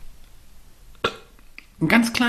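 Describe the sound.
A small, short burp pops out after a quiet moment, followed by a louder voiced, throaty sound near the end.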